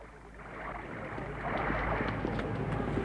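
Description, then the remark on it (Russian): Mr. Chia's boat moving on water, with a steady low rumble and washing, splashy noise that swells a little louder halfway through. No voices. “Лодка господина Чиа. Сюда. Осторожнее.”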